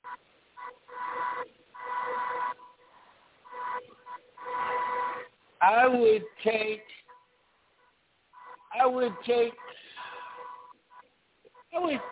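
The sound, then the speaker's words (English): A phone rings during a live radio broadcast, in repeated electronic bursts, a steady mid-pitched warbling tone that starts and stops several times, with short stretches of voice breaking in between the rings. “Oh, my phone is ringing.”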